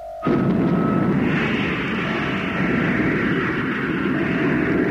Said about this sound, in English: Stand by to cut in the motor, Mitch. We'll give her full power.